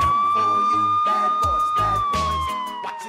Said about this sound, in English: which means there have been 3 decades of traffic stops, foot chases, drug busts, shirtless drunken ravings on porches, dazed suspects sitting on curbs, and a lot of sirens.